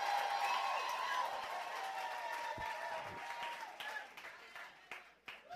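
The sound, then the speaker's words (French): An audience cheers and applauds together in acclamation of Jesus, a dense wash of clapping with high shouts and whoops on top, loud at first and gradually thinning out toward the end. “Donnez une bonne acclamation à Jésus.”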